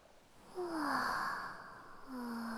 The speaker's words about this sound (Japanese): 波の音も落ち着く。